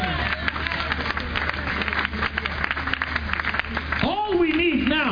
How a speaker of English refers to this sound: Let's give Lord a clap of praise.